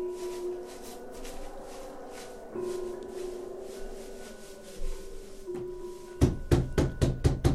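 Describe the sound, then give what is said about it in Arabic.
A quiet, steady humming drone gives way to a quick series of about seven loud, sharp, evenly spaced knocks on a door as a guest arrives. “أبي، أبي، افتح الباب يا أبي، جاءك ضيف.”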